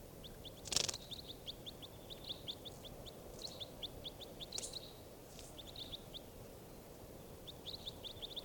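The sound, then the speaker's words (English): Recorded song of bird number 586: rapid, high-pitched chirps repeating in quick rhythmic bursts, with a few louder sharp notes standing out over a steady low background rumble. No one speaks. “Starting bird 586.”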